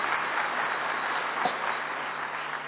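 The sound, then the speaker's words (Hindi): A crowd claps for themselves in joy, many hands blending into a dense, even patter that holds at a constant level for a few seconds with no voices over it. “ठीक है, अपने लिए खुशी की ताली बजाओ।”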